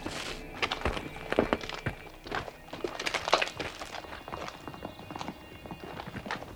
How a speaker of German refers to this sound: Hufschläge. Das sind Hufschläge. Hört ihr das? Ja. Mein Gott, hört ihr das?